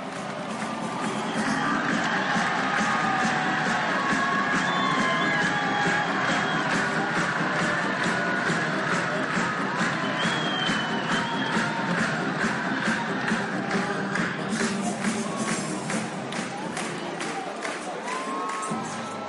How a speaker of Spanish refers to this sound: Seguimos aquí en La Lata de Maíz después de escuchar esos sonidos de Ballpark, en concreto de Fenway Park.